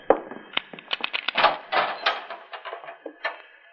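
A heavy metal jail cell door clanks and rattles open, with a quick series of sharp metallic knocks and a ringing scrape, fairly loud, with no one speaking.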